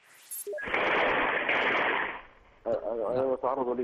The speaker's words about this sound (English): I'm being attacked right now. This is gunfire inside my house. They're inside my house.